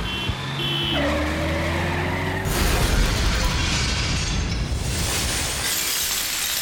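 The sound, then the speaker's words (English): A heavy engine drone rises for a couple of seconds, then gives way to a loud, sustained crunching and shattering as a car is crushed beneath a tank driven by Christo in Sydney, with no voices. “Here comes a car”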